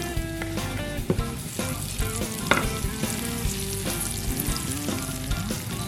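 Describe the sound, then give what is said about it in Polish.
Steady sizzling of diced onion and bacon frying in a pan, a dense crackle throughout with occasional sharper pops and a few stirring scrapes, no voices. “Gdy cebula wylądowała już na patelni, bierzemy się za obieranie i krojenie czosnku.”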